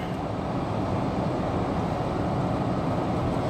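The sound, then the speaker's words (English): A tractor harrowing dirt in a field, its engine giving off a steady, heavy low rumble that drones on without a break, fairly loud, with no voices. “It's harrowing.”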